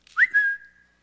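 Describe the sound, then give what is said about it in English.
A single sharp human whistle, used as a signal to find a partner when separated in a store, rises quickly and then holds a steady high note before fading, loud with no other sounds around it. “And so whenever I whistle like that in a store,”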